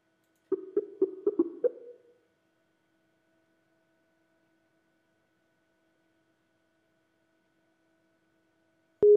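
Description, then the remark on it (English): After a dropped phone call, a quick run of five or six short electronic phone beeps sounds like a fast busy tone, then a long silence and one last brief beep at the very end. No one speaks. “Uh-oh, I think I lost my phone.”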